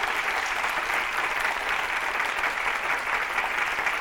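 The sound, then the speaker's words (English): An audience claps steadily for the full four seconds, a dense, even wash of many hands with no voices breaking through and no letup in loudness. “Would you give them a big hand clap?”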